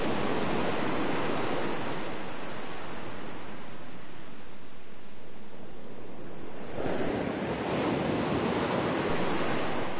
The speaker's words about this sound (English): feel the beauty and the majesty of the ocean rising from all around you. Notice that the air is thick with the spray and fragrance of the ocean.